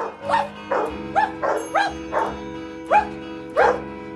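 A rapid series of about seven dog barks in an even, almost rhythmic pattern, clear, over a steady low tonal background, as a man in a recording studio actively conducts the barking dogs.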